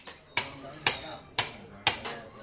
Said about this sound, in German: Das Maginkloster in Rangun, am Ende einer schmalen, staubigen Gasse. Handwerker arbeiten an der Ummauerung des Hauses und an einem Abwasserkanal.